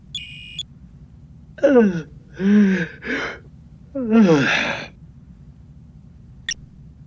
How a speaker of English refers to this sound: At 0100, however, he finally looked away from his work long enough to yawn.